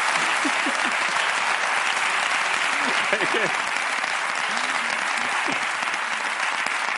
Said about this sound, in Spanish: Ha venido a faltar, vale, pues un aplauso para ella, que ha venido a faltar directamente.